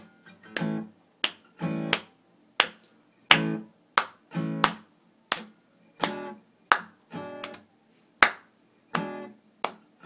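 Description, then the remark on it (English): Hands clap in a steady rhythm to keep a beat, about fifteen sharp, crisp claps over ten seconds, some falling in quick pairs, with no voices. “We're gonna show you rhythm. Clapping our hands.”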